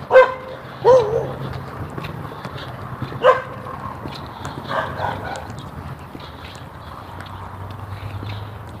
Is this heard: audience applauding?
no